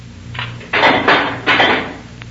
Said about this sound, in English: here's the key. Open the door.